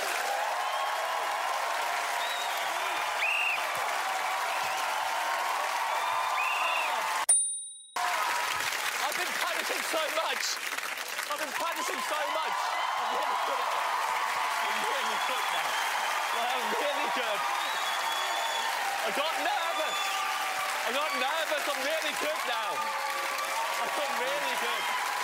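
A crowd hollers and shouts continuously and loudly for about 25 seconds during a contestant's attempt at a timed task, broken by a brief whistle blast and a momentary hush near the start before the yelling resumes.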